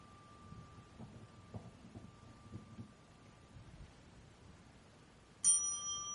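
A temple bell is struck once near the end during Buddhist worship before an image of the Buddha, a bright metallic ring with clear overtones that hangs on and slowly fades, after several seconds of quiet, low rustling background with a faint steady tone.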